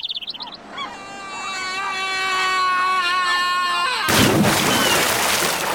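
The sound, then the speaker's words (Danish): A long, wavering whistle builds for a few seconds, then a new cannon being test-fired in Aalborg goes off with a sudden loud boom that trails off into a rough, rumbling roar. No one speaks. “Nå, det var bare dem i Aalborg, der var ved at prøve deres nye kanonflyve af.”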